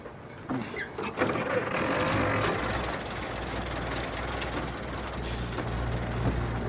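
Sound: car engine starting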